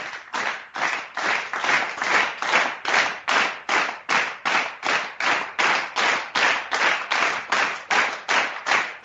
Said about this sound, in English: Yeah, actually, I think I have a slow clap. Yes, I do. Here we go.